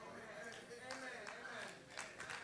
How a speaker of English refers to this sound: That's a sad hand clap, but thank you for you that are clapping.